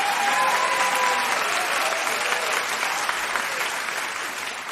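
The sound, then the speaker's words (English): Sustained audience applause at the improvised show Ostentatious, for the singers and the musicians Oliver Izard and Dylan Townley, a dense, steady wash of clapping hands that stays loud throughout and tapers only slightly toward the end. “Welcome to Ostentatious, ladies and gentlemen, and please join me in a round of applause for the singers you heard earlier and also for our wonderful musicians, Oliver Izard and Dylan Townley.”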